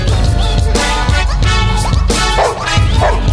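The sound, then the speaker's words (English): Loud, dense dog vocalizations, overlapping barks and rough growling, continue without a break, with a steady low thumping pulse underneath. “But just some growls out there, folks.”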